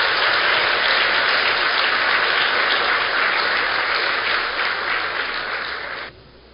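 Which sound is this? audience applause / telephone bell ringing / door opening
audience applause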